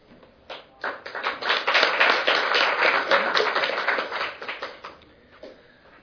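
An audience applauds as the first speaker is called up: dense overlapping claps that rise quickly, hold steady for several seconds, then thin out into a few scattered claps before fading.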